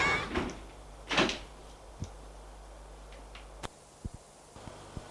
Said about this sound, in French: Et la femme ferme la porte derrière lui.